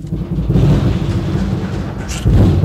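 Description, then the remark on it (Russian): Ice cracking and breaking up, heard as a loud, deep rolling rumble with heavy booming thuds, like cannon fire. It continues throughout and swells again near the end, with no voices. “Это трещат и ломаются льды.”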